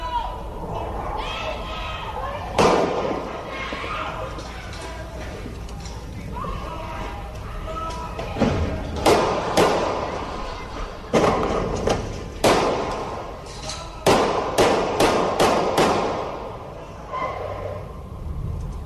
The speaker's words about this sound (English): Here is the gunfire as it rang out about 3 o'clock this morning. Count the gunshots. I think I count nine of them, but count the number of gunshots as a 16-year-old child was murdered and a 14-year-old put into critical condition.